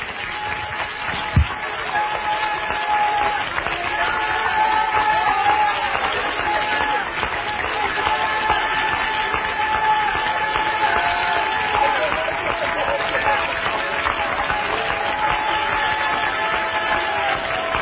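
A large gathering claps steadily for the Lord for nearly twenty seconds, a dense, even wash of applause with faint sustained musical tones running underneath.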